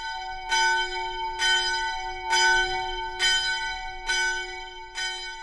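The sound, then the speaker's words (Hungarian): A church bell tolls a death knell, six strong strokes at an even, unhurried pace, each with bright ringing overtones that hum on between strikes. It is rung by parishes of the diocese at noon on Friday in memory of Father Olivier. No voices are heard. “A püspök arra kérte egyházmegyéje plébániáit, hogy pénteken délben húzzák meg a lélekharangot Olivier atya emlékére.”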